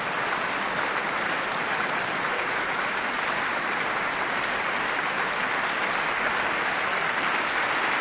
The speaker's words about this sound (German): Die 31-Jährige kommt noch einmal auf die Bühne und ich bin gespannt, ob sie ihre Geige ansetzen wird, um dem Publikum noch einmal zu danken mit einer Zugabe. Sie applaudiert selbst jetzt dem Orchester.